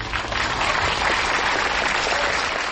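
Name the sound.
audience applause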